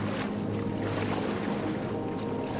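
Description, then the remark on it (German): Steady wash of open-ocean water and mighty waves around a kayak, with a continuous rushing, splashing texture as it paddles through, the waves making the paddling a challenge. No one speaks. “Mächtige Wellen lassen das Paddeln zu einer Herausforderung werden.”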